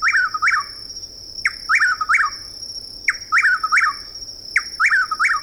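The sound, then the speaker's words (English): Loud chuck-will's-widow calls in a southeastern woodland in the evening repeat in a steady rhythm, each a quick three-part whistled phrase, about four phrases over the stretch, with a faint insect drone behind and no talking. “The same evening, in a southeastern woodland, we hear the loud calls of a chuckwill's widow.”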